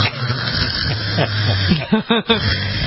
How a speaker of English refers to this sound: You knew Charlotte was working hard to get that sound out. Yeah, right. Bulldogs yeah. definitely have a unique snore. They sure do. And she had a very unique snore.